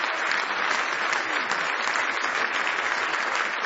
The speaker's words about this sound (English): Somebody say praise the Lord. Give him one more hand clap of praise if you love him this morning.